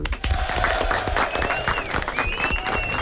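An audience bursts into steady applause, many hands clapping together in a dense patter that holds at an even level throughout, with a few faint voices mixed in.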